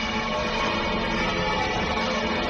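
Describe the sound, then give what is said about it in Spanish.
The bells of Málaga Cathedral peal together minutes after the white smoke announcing the election of Pope Leo XIV, in a dense, continuous wash of overlapping metallic tones, steady and fairly loud throughout, with no voices. “Así redoblaban las campanas de la Catedral de Málaga solo unos minutos después de la fumata blanca.”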